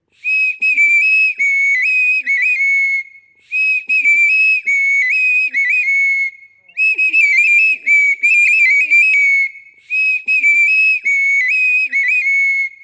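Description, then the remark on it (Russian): A bird-shaped clay whistle plays four bright, trilling phrases of about three seconds each, separated by short pauses, loud with a warbling, birdlike quality. “У меня дома тоже свистулька-птичка есть. Я играть на ней умею. Сейчас услышишь.”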